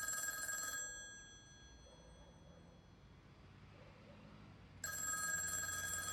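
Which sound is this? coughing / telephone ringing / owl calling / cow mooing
telephone ringing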